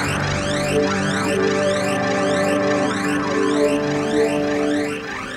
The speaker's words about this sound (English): can take the initiative on the alarm, soldier.